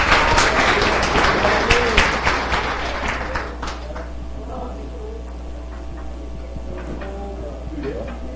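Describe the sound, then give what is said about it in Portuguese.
An audience claps in a dense, steady burst of applause that tapers off after a few seconds, leaving scattered faint claps and quiet murmuring, at a tribute ceremony held by the Guadalupe municipal council (Câmara Municipal de Guadalupe). “Uma salva de palmas para a dona Lourdes.”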